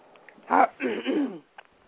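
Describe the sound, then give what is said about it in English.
A short, raspy coughing fit from someone fighting off a cold as their cough medicine wears off: one sharp hack followed by a longer, rough, throat-clearing cough, with no talking around it. “Well, I'm fighting off a cold, and I get a coughing fit every now and then.”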